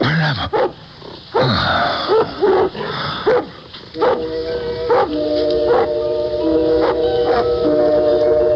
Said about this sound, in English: What is it that disturbs your conscious mind, Doctor? A dog barking.